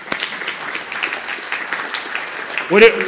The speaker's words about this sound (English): Awesome, thank you so much. Round of applause for you guys.